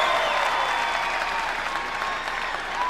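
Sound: crowd cheering and applauding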